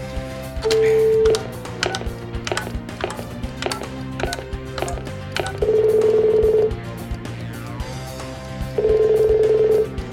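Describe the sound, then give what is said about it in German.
A wall telephone is dialed to make a call: a rapid run of mechanical clicks and clatters, broken by three steady electronic tones, each lasting about a second, with no one speaking. “Ich muss nur ein Telefonat führen.”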